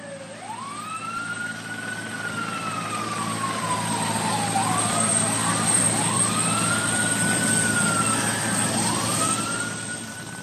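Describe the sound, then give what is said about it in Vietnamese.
Emergency sirens wail in long rising and falling sweeps across the National Mall south of the US Capitol in Washington, several cycles overlapping over a broad rumbling background of engine or crowd noise, steady and fairly loud throughout. “Tiếng còi báo động khẩn cấp hú rền rĩ trên bãi cỏ rộng lớn National Mall phía Nam Quốc hội, kéo dài từ đồi Capitol đến tòa Bạch Ốc cách xa khoảng 3 cây số và một lệnh phong tỏa được ban hành tại chỗ.”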